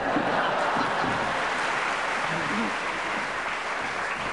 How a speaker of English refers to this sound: I should explain to our listeners that that extra loud round of applause was because Tony Hawks did get up and actually leave, pretending that he was off to Bakewell right now, and they thought the idea was so delicious,